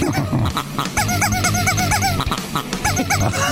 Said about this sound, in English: That's a pig, by the way.